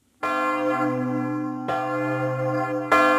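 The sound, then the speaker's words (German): A church bell is struck by its clapper three times at a slow, steady pace, each loud, rich metallic strike ringing on and overlapping the next. There is no talking. “Wenn der Klöppel auf die Glocke schlägt, dann ist das für die Glocke eigentlich eine ziemlich heftige Beanspruchung, die im Extremfall dann dazu führt, dass ein Riss im Gefüge entsteht.”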